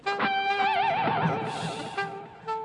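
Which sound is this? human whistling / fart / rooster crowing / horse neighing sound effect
horse neighing sound effect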